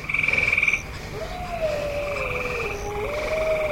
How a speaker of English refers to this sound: Me being on a bike allows me to observe how it all fits together. So when we pass a bunch of frogs, cars go zooming right by, but we hear them.